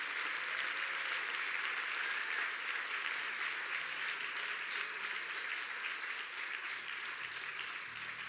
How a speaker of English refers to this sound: Can we take a moment on this last day of 2023 and just give God a hand clap of praise and celebrate God for all that he's done?